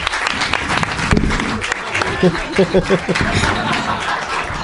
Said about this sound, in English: Yeah, put the microphone in the audience direction to get all that audience applause. You don't want to miss any of that audience applause.